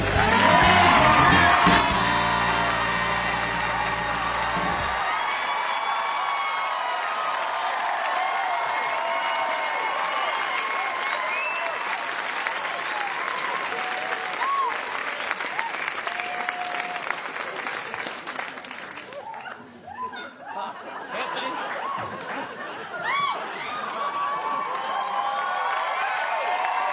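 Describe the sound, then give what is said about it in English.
A large crowd applauds and cheers steadily for nearly half a minute as a guest is welcomed onto a show, with scattered whoops over dense clapping. A brief burst of band music opens it, and the roar dips slightly near the end. “God, a crowd can't get over it either.”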